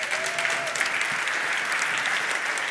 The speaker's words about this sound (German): Also meine Lieben, einen Applaus